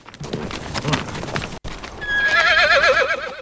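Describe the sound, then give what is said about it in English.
Hooves clip-clop in a quick rhythm as a rider reins in a horse, then after a brief pause the horse lets out a loud, quavering whinny that carries on to the end. “She reins in her horse and looks round as McKay sets off in the other direction.”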